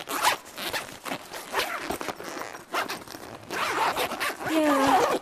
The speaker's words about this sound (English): And all the pockets have got lots of zips. Funny, I never noticed before. I know they're in here somewhere. Try around the back.